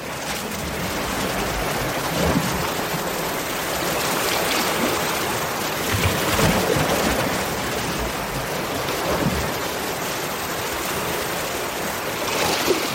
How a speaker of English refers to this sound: It's a collection of recordings just from St. Abb's Head area, with kittiwakes around on the cliffs at the time. I just really enjoy listening to the sound of the water.